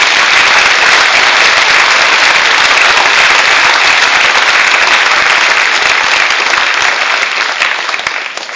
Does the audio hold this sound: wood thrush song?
no